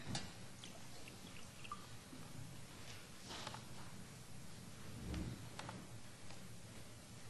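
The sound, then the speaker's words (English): Water pours quietly into a glass for several seconds, a soft, continuous trickle with a few small clinks and drips, heard at low volume against faint room noise with no one talking, as a speaker gets water before giving a talk. “Get some water first.”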